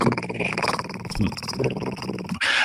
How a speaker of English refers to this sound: And Bueller's just lowly barking so he doesn't get in trouble.